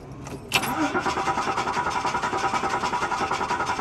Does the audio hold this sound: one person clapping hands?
no